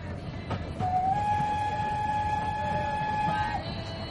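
A passenger train from Bombay rumbles steadily along the tracks while a long, high whistle blast sounds for about three seconds, loud, with no voices.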